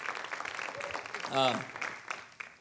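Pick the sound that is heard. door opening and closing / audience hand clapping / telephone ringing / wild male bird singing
audience hand clapping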